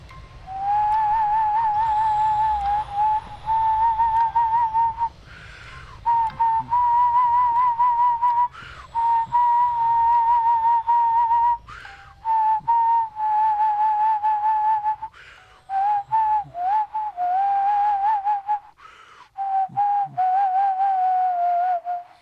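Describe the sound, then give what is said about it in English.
A person whistles a melodic tune alone for over twenty seconds, in clear phrases separated by brief breath pauses, with a low hum faintly underneath. “The only thing I could bring myself to do was whistle. And whistle I did.”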